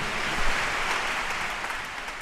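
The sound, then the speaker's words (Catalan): A large audience claps steadily after a piece at the Orquestra Simfònica Sant Cugat's concert Valsos i Danses on 27 December 2022, a dense wash of many hands at an even, sustained level with no voices. “O sigui que un fort aplaudiment”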